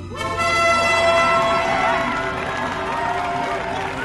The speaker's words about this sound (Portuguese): O povo bateu palmas e gritou: Viva o rei! Viva o rei!